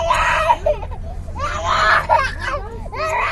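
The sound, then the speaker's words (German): A toddler of about 1.5 years screams and wails in three loud bursts, each breaking into sobbing cries, as an abscess on the neck and foot is treated in a football stadium serving as a tent camp and field hospital, with a steady low hum in the background. “Ein etwa 1,5-jähriges Kind schreit, als ihm ein Abszess im Nacken und Fuß behandelt wird.”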